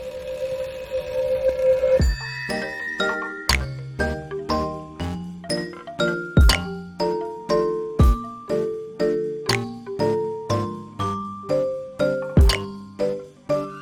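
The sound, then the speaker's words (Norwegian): Cowbells ring out one clear struck note after another at a steady pace, each tone ringing briefly and fading. A low steady hum comes before the bells begin. “Hvorfor har kua bjeller?”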